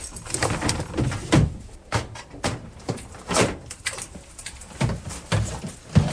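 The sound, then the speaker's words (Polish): Dry, scratchy rustling of mealworms, kept as food for insect-eating birds, in a container: a steady patter of small ticks and scrapes with occasional louder knocks, continuing for several seconds with no voices. “Tak szeleszczą. Tymi robakami, parwurkanie, ptaki?”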